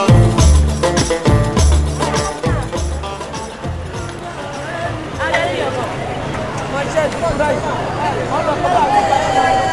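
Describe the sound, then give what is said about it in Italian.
A busy outdoor crowd in piazza Santa Chiara, in the Albergheria district of Palermo, around 9 in the evening, murmurs steadily, many overlapping voices blending into a constant babble, with a few rhythmic knocks early on and scattered louder calls rising from the hubbub. “Palermo, piazza Santa Chiara, al centro del quartiere Alberghieria, vicino a Ballarò, verso le 9 di sera.”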